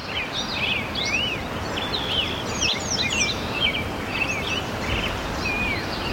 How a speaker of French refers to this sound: Là, on entend les oiseaux et derrière la rivière, c'est la rivière qui coule.